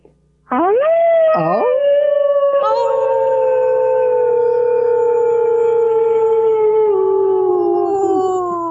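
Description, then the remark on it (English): Several people let out a long, loud howl together in imitation of a wolf, their voices rising sharply, then holding and slowly sliding downward for about eight seconds without a break. “So breathing into your heart, this is the time where you're going to let out, wherever you are, a wonderful wolf howl.”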